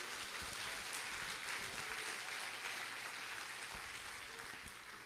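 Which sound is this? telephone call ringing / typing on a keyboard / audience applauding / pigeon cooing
audience applauding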